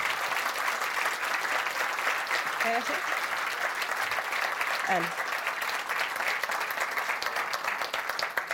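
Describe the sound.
An audience applauds steadily for several seconds, a dense, even wash of many hands clapping at constant loudness, with a couple of brief faint voiced sounds mixed in.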